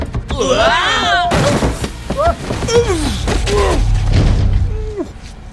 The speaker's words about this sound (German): Hef erreicht zwar als Erster die Tür, wird aber von seinem Personal, das nicht mehr abbremsen kann, überrollt.